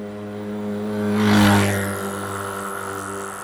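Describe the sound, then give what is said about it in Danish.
A car drives fast along a bypass road, passing under the viaduct by the Holbæk Motorway. Its engine hum and tire roar swell to a peak midway and then fade, with a steady engine drone underneath throughout. “Klokken er 10:20, da drengen kører over omfartsvejen og under viadukten ved Holbæk Motorvejen. Jeg er rimelig hurtig, ja.”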